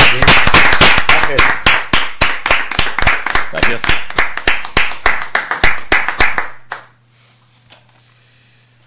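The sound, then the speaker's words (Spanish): Audience applause, a dense run of loud, brisk clapping lasting about six seconds before it dies away into quiet; a single voice speaks briefly over the clapping. “Un aplauso.”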